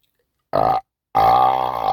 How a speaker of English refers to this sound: I got into a, burping fit.